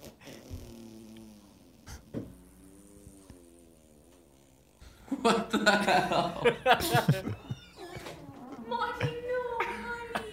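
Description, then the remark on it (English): A cat heaves with low, drawn-out gagging noises, then breaks into a louder stretch of rapid, wet retching bursts, with voices reacting. “This video is entitled Dog Fart Cat Puke.”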